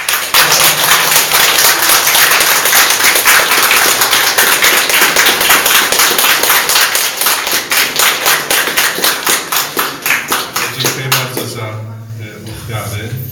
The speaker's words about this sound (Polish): Także serdeczne Bóg zapłać, serdeczne dzięki, ponieważ nie ma już Najświętszego Sakramentu, więc teraz możemy oklaskami normalnymi, ludzkimi podziękować.